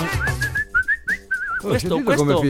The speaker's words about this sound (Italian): Senti come fischia, come è contento oggi. Oggi sì, senti come si vede, senti che musica.